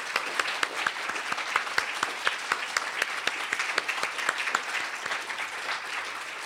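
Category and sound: crowd, audience applause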